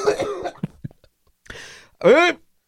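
A fit of harsh coughing and sputtering, several rough bursts separated by brief gasps, ending in a loud, strained, choking cough.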